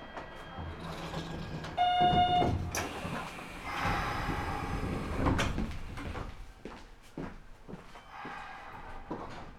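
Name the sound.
train doors sliding closed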